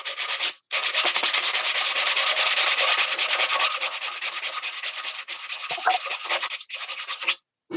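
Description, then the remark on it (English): Steady, gritty scraping of a piece of sandpaper over an old, very rusty small round metal barbecue, sanding off rust dust, a continuous hissing rasp broken by a few brief pauses as the strokes restart, loud and alone with no voices. “So I've got an old barbecue, a very sort of small round barbecue thing, which is very, very rusty, which has been sitting in my garden for yonks.”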